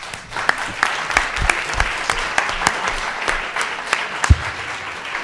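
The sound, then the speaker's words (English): An audience claps steadily for the panelists for several seconds, a dense patter of many hands with sharper individual claps standing out, fairly loud and without any talking. “Please join me in giving our panelists a round of applause.”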